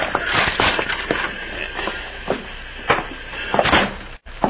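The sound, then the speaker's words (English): Metallic clicks and rattles of a jail car door being unlocked, followed by the clunk and creak of it swinging open, several sharp handling knocks spread over a few seconds, with no voices. “Get the door unlocked.”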